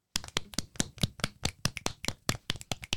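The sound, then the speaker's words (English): An audience claps in a steady, brisk rhythm, the sharp claps distinct rather than blurred into a roar, fairly loud, with no voices over them. “Thank you for the applause, though.”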